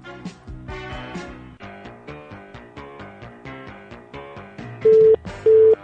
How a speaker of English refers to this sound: same two-beep thing. So they have not upgraded their phone system in 20 years. Like, every Blockbuster has this beep.